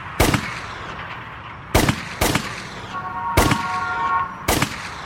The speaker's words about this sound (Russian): «Да», – ответил ему Марк Чепман и сделал 5 выстрелов в спину.